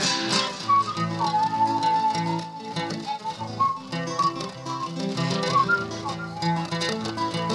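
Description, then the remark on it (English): A whistled melody floats over a full, steady musical backing, its bright tune weaving up and down at a moderate volume for several seconds without any talking. “Music, the stress reliever. Whistle along, become a believer.”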